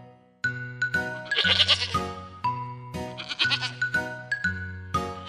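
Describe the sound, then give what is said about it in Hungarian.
Several goats bleat in quick succession at the Kecskevilág farm, their wavering, nasal cries overlapping and continuing almost without pause, with no talking. “Utunk célja a Kecskevilág nevű tanya, vagy farm, majd mindjárt kiderül”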